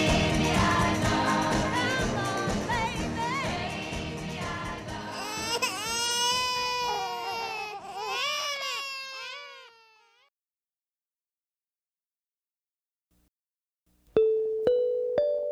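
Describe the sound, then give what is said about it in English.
Babies wail loudly and close up for about ten seconds, their cries rising and falling in pitch, before cutting to silence; a short bright musical tone sounds near the end. “We wrap up this week with congratulations to U.S. Transportation Secretary Pete Buttigieg and his husband Chasten on their adoption of infant twins”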